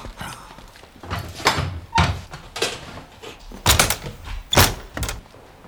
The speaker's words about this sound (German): den Raum verlassen und die Tür hinter sich geschlossen hatte,